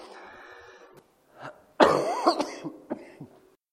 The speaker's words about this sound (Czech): Ale zatím se to projevuje jenom tak, že tady začnu prostě šíleně kašlat a no, tak se za to omlouvám.